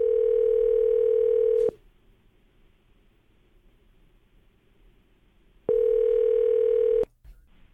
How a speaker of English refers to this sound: I got most of his phone number. I'm going to push the last digit, okay?